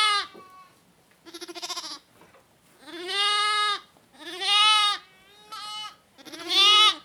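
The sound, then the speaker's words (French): Sheep bleat repeatedly and loudly, about five wavering, drawn-out calls in quick succession with brief gaps between them and no talking. “Eh bien, nos brebis, elles mangent tous les jours, du lundi au dimanche.”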